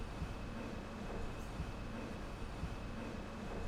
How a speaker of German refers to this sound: Der Zug fährt los. Im Spiegelbild am Ende des Bahnsteigs fährt der Zug rückwärts.